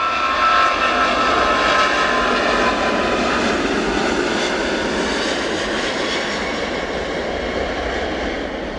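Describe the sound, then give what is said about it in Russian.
A Boeing jet airliner's engines roar steadily as it climbs rapidly, a loud, dense, unbroken whoosh with a faint high whine, easing slightly toward the end. No one speaks. “Боинг стремительно набирал высоту.”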